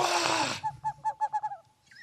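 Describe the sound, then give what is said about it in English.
An owl hooting: a burst of rushing noise gives way to a quick, even series of about six short, mid-pitched hoots that fade at the end. No one speaks. “That's an owl!”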